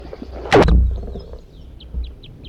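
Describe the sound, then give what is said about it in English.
A wild red crossbill, one of a group of three, sings a short series of faint, high chirps in a quick rhythm, preceded by a loud, low thump or rustle. Recorded at Poverty Hollow at almost 8 a.m. on June 1, 1983. “Those were songs of a wild red crossbill.”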